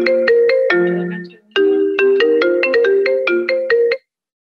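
mobile phone ringtone

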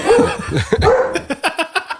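dog barking

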